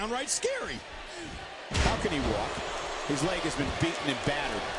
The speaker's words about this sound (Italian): Pestone da parte di Ambrose e danni di Luke Harper.